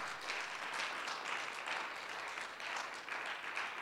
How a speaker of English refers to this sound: That's a good place to give the Lord a good clap offering right there.